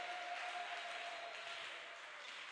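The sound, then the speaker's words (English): An audience claps together after being told to clap and shout amen, a dense, continuous wash of overlapping hand claps, steady and fairly soft throughout, with no single claps standing out and no clear speech on top. “Now clap and shout amen.”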